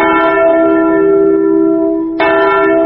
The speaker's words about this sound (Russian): Здесь, в Катыни, в апреле всегда слышен звон траурного колокола.